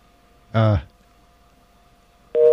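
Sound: busy tone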